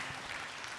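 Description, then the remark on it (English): A crowd at a Communion Sunday service applauding after a sung piece, a dense, steady wash of many hands clapping at even loudness for under a second, with no voices over it. “Don't applaud.”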